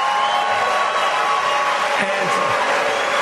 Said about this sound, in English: Mix of cheers and boos. And, you know, this is the great thing about this country. Booing is allowed, but it doesn't change the truth. No, booing is loud.